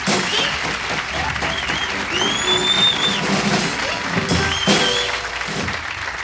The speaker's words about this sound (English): Let's give him a nice round of applause, huh?